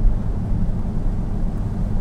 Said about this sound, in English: You can probably hear the rain on the winder.